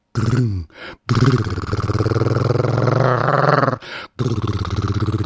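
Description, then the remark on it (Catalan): A voice imitates a Harley motorcycle engine with a loud, rumbling, throaty drone, revving up and sustaining for a few seconds, broken by two short pauses. “És una Harley.”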